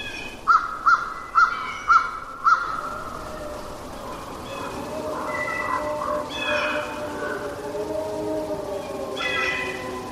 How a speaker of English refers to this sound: You'll hear a crow, and then...